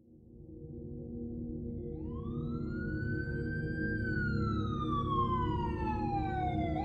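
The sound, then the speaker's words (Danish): A wailing emergency siren rises slowly in pitch, holds, then sweeps back down over a steady low rumble of traffic or engine noise, in Vesterbro, Copenhagen, Denmark, on 13 November 1996. No one speaks. “Den 13. november 1996 vågnede beboerne på Vesterbro i København op til hylende sirener.”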